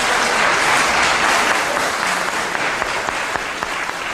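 An audience claps steadily throughout, a dense, sustained wash of applause with sharp individual claps standing out, holding roughly the same loudness without fading. No one speaks.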